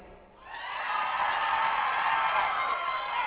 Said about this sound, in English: Now let's just hear how loud y'all can yell, and remember, you are on the radio.